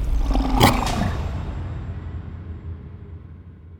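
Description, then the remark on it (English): A loud lion roar erupts in a single harsh burst, then trails off into a low, rumbling growl that fades over the next few seconds, as the lion pounces on and attacks a person. “Then, suddenly, a lion pounced on her and tore out a piece of her scalp with its fangs.”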